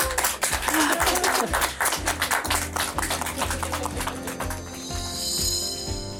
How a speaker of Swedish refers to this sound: Och jag tycker att vi ger dem en applåd.